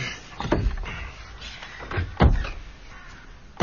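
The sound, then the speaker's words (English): A door opens as Brim arrives, with a couple of knocking, rattling thumps, a heavier bump near the middle, and quiet room tone between. No voices. “There's Brim at the door.”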